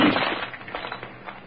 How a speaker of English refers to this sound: The cup? Smash it! And end its evil that turns sound minds to madness!